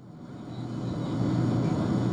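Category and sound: vehicle, airplane cabin engine noise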